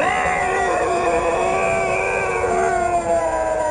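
A loud, wailing, guttural howl from a creature nearly 9 feet tall, covered in a thick, dark coat, not a bear, with bared teeth and yellow eyes; it holds steady for several seconds, a rich drawn-out cry with no voices over it.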